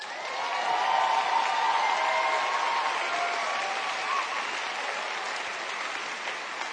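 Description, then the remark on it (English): An audience breaks into loud, sustained applause, a dense wash of clapping with a few cheers mixed in, holding steady for several seconds before easing slightly toward the end. “See, now that wouldn't get applause everywhere, I'm betting, is what I think, you know, in a lot of venues.”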